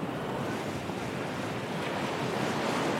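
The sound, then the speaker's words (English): Ocean waves rush against the shore in a steady, continuous roar of surf, with some wind noise mixed in and no voices present. “A song that describes the beautiful waves that have, and will always, bathe Puerto Rico.”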